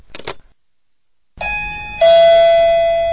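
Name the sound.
doorbell ringing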